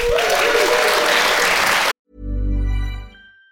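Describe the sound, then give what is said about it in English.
A live audience in London claps and cheers in a loud, dense burst for about two seconds, then it cuts off abruptly and a low, sustained musical tone follows. “Our audience in London, we're going to beg for applause again, and then we'll get on to the very important section of introducing our special guest.”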